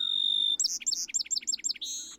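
A bird sings clearly: a sustained high whistle, then a quick series of about seven repeated sweeping chirps, ending on another held note. No voices.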